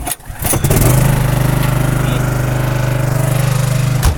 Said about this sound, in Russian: У нас есть генератор, который мы включаем. Будет громко.